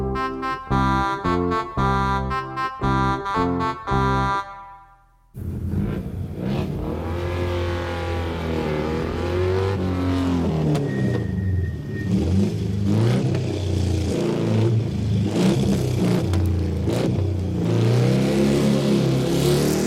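A short run of bright electronic tones cuts off, then a motorcycle engine roars and revs repeatedly, its pitch climbing and dropping as it idles loudly to the end.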